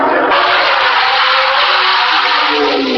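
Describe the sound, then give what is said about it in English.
A modern-era Formula One racing car engine screams loud, its high-revving whine steadily rising in pitch as it approaches. The roar is continuous, with no voices. “You can hear the modern era advancing upon us.”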